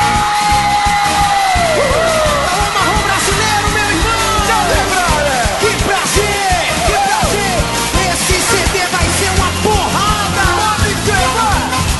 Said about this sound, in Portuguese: Mas eu queria agora chamar um cara que é meu amigo, irmão. Queria que vocês aplaudissem de coração esse brother.